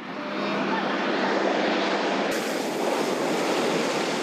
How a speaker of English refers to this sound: It's the first plane seen in months, and it's eagerly awaited here in the refugee camp of Kagabandoro in the north of the Central African Republic. It has been sent by the International Red Cross, and it brings urgently needed relief and supplies.